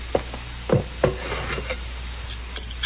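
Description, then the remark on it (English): A container of hot water is set down on a wooden chair, making two or three hollow wooden knocks in quick succession, followed by faint shuffling over a steady low hum. “Here's the water, Doc. It's hot. Thank you, Sarah. Put it down on that chair.”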